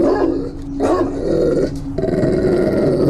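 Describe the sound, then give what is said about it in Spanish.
A dog growls and barks loudly, a continuous rough rumble broken by a few sharp bursts, with no one speaking. “Probablemente ni siquiera me podía escuchar debido a lo fuerte de sus ladridos.”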